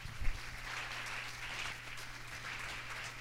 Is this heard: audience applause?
yes